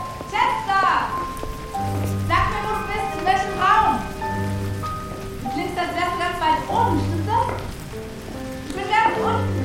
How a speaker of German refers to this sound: Er stand auf einer Terrasse im Erdgeschoss. Hier schlug ihm wieder der Regen ins Gesicht.